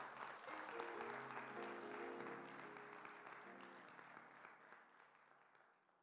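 An audience claps their hands after a closing Christian prayer, a steady, dense wash of applause that lasts several seconds, with soft sustained musical chords underneath, gradually tapering off toward the end.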